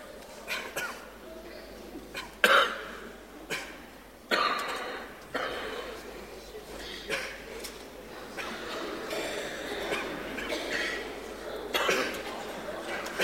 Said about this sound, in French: Les toussements, c'est peut-être le commencement des chansons.